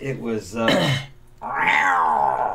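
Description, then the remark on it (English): A person vocally imitates a wild growl their cat made, likened to a little bobcat or leopard: a raspy, wavering snarl that rises into a strained yowl, pauses briefly, then swells into a second long, harsh, mid-pitched cry. “It sounded like a little bobcat. Sounded like a little leopard.”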